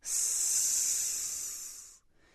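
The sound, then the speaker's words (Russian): A quiet, steady whistling hiss, high and airy, holds evenly for about two seconds and then cuts off abruptly, leaving faint background noise. “Он слышит тихий свистящий звук.”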